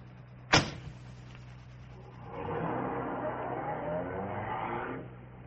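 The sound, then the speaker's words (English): A car door slams once, then after a short pause an engine rumbles up and the car pulls away, its steady motor noise lasting a few seconds before cutting off. “Come along, bring your bag. The car's right here.”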